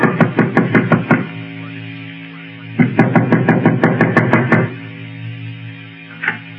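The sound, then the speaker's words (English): Two bursts of firm, rapid knocking by a sheriff on a front door, each a quick run of about seven or eight raps, separated by a pause, followed by one faint final tap. Loud, no voices. “Mullins was feeling mighty fine about 2 hours later when there was another knock on the front door.”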